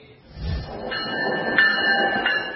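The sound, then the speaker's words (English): A train rolls steadily along the rails, its low rumble joined by bright metallic squeals of wheels on track, loud throughout. “a political candidate travels to cities by train to make personal appearances”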